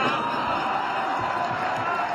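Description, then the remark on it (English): A large hockey arena crowd murmurs and roars in a steady, dense wash of voices, loud and sustained throughout with no single voice standing out. “Listen to the crowd. It's like a stand-up comedy routine.”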